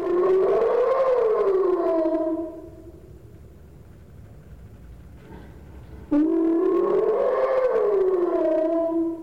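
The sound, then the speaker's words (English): A hyena gives two long slow whoops, calls carrying information from one individual to others, each a loud rising and falling hoot separated by a few seconds of quiet, with no voices present. “We also have what's called a slow whoop, and it's providing information from one individual to others.”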